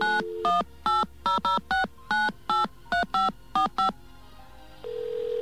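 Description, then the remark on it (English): A quick series of about eleven touch-tone beeps from a touch-tone telephone dialing the 9X automated account information line, each a short bright dual-pitch tone in an uneven rhythm, after a brief tone at the start; a steady low hum takes over at the end. “If you are calling from a touch-tone phone, press 1. This is a touch-tone phone.”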